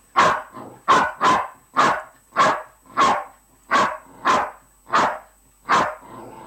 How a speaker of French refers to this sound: Jusqu'à 10, il a aboyé 10 fois.